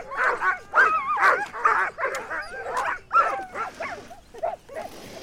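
A sled dog team, led by former Iditarod champion Pete Kaiser in front of a caravan of trucks on an ice road, barks and yips excitedly, many overlapping voices in quick bursts with some whining, loud, continuing throughout with no speech.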